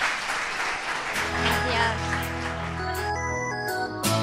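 An audience claps steadily in a dense, continuous wash of applause, and after about a second, sustained musical tones swell in and carry on over the clapping to the end.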